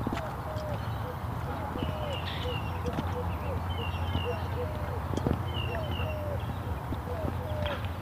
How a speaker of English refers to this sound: Dove giving it his all today.